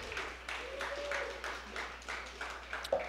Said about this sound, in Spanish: Fuerte aplauso para todos ustedes, han sido excelente público.